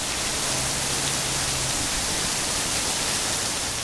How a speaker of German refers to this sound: Beinahe täglich geht an der ein oder anderen Stelle in Singapur ein mächtiger Regenguss nieder, der nach 10 Minuten aber schon wieder vorbei sein kann.